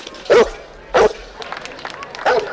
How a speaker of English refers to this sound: Zach turns and sees Hooch barking from the window.